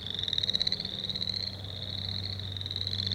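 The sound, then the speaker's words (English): Boreal chorus frogs call continuously in a small, shallow, ankle-deep wetland pond near Rhinelander's airport, their rapid, pulsing trills overlapping into a dense chorus, with a steady low hum running underneath. “We know boreal chorus frogs are easy to hear, but nearly impossible to see, much less catch.”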